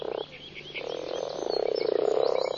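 A dense chorus of frogs croaking continuously on protected shores in the Black Forest, with rapid pulsing calls overlapping and swelling louder toward the end, plus higher chirping calls above; no voices.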